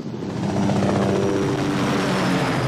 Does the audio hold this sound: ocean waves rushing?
no